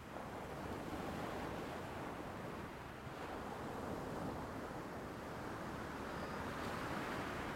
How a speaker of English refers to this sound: Here, the foam thins out, coming in to cover shells and bits of seaweed before retreating back into the ocean.